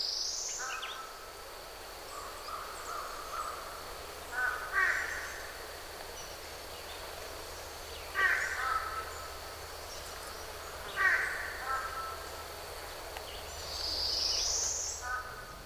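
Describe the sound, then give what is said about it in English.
American crows and fish crows caw a few times at spaced intervals along the Buffalo in the Ozarks, over a steady insect-like hum, with a couple of brief high bird chirps at the start and end. “I can't say for sure whether or not American crows and fish crows like one another.”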